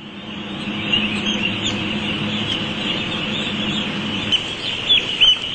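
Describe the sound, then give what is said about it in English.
A dense, unbroken din of many farmed ducks crowded together in a shed, their calls overlapping into a steady loud wash, with a few sharper, higher squeaks standing out near the end. “To begin with, there's room in the sheds to move around, but as the birds grow, the available space reduces.”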